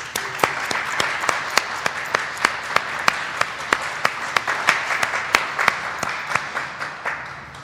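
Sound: audience applause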